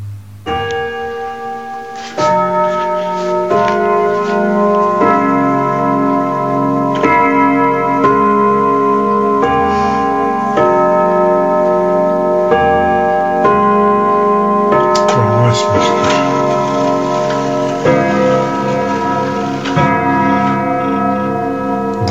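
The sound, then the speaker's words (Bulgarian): Several clocks tick and chime together in a clockmaker's workshop on Rakovski Street in the capital, with bright ringing tones striking repeatedly and sustaining in overlapping layers, steady and fairly loud, with no one speaking. “Чуйте за какво си говорихме с него в този приказен свят на часовниците.”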